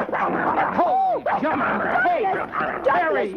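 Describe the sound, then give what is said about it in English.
A dog, Laird Douglas of Heatherscote, growls and lets out a rapid string of high, sharp yips and whiny yelps, fairly loud, with voices talking over the commotion as it is told to let go of a man's leg. “He was a dog.”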